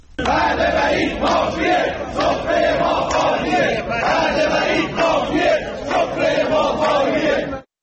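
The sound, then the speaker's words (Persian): A large crowd of protesting nurses in the Iranian cities of Yazd, Fasa and Mashhad chants slogans in unison, demanding that their professional grievances be addressed. Voices rise and fall in a steady rhythmic cadence, loud and continuous for several seconds before cutting off abruptly. “بر اساس ویدیوهای منتشر شده در شبکه‌های اجتماعی، پرستاران در شهرهای یزد، فسا و مشهد تجمع اعتراضی برگزار کردند و در شعارهایی خواستار رسیدگی به مطالبات صنفیشان شدند.”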